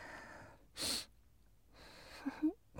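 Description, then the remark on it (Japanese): A single sharp sneeze bursts out near the start, followed by breathy exhales and a short voiced sound. “あーくしゃみでした。”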